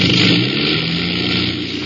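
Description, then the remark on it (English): A loud aircraft engine drones steadily throughout, a dense rumbling roar with slight dips in its output, as if one of the engines is briefly sputtering. “I heard it. One of the engines.”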